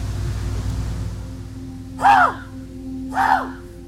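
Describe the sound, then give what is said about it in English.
A person mimics a raven with two hoarse, croaking caws about a second apart, loud, over a steady low outdoor hum, trying to call in ravens on a crisp morning in Thompson, outside a house. “I'm going to try and call in a raven or two, if I can.”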